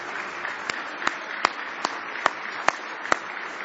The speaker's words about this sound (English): Give the Lord a big hand clap of praise.